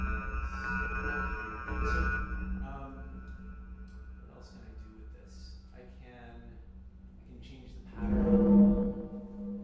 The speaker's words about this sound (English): So that's a tighter angle on the sine wave, and you can hear it.